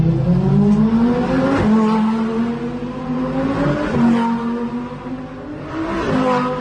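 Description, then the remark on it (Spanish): Several Lamborghinis roar past in quick succession, overtaking a car on the AS-260 road near Colunga, Asturias, Spain, engines revving hard with rising pitch as each one accelerates by, loud, with no talking. “Mira, así suenan varios Lamborghinis adelantando a un coche en plena carretera, concretamente la AS260, a su paso por Colunga, en Asturias.”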